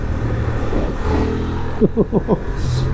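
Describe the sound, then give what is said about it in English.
A Honda Transalp adventure motorcycle engine idles and then revs in a few quick, sharp blips, each rising and falling, with a steady low rumble underneath. “I do like that. Do that engine.”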